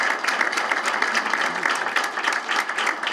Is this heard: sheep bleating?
no